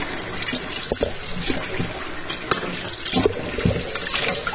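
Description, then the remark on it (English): Knives being washed under a running tap at home: a steady, fairly loud rush of water with occasional sharp clinks and knocks scattered through it. No one speaks. “But the only thing I am washing are the knives.”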